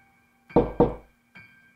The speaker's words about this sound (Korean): 누군가 문을 두드리는 소리에 난 힘겹게 눈을 떴다. 묘하게 몽롱한 기분을 느끼며 귀를 기울여보니 다시 한번 노크 소리가 들려왔다.